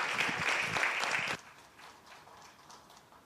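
A crowd claps in a dense, steady burst of applause for just over a second, then it cuts off abruptly, leaving only faint, scattered clapping and low room murmur.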